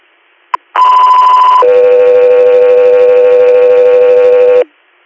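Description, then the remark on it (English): A loud two-tone radio dispatch alert for the Guthrie Air medical flight service: a brief click, then a steady higher tone for about a second, followed by a longer, lower steady tone lasting three seconds, with no talking. The alert comes before an inter-hospital transport request from Corning, New York. “Go 3 air, stand by for tones.”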